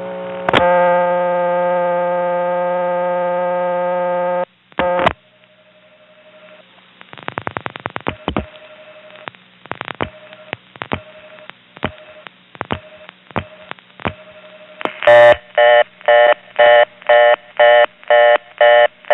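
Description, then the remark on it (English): A home phone line in Wellfleet gives a steady dial tone, then a string of sharp clicks as 1 plus an eastern Massachusetts routing code is dialed, followed by a rapid, evenly spaced series of beeping tone bursts. No voices are heard. “On this next call, I dial 1 plus one of those routing codes within eastern Massachusetts just to see if it might work here.”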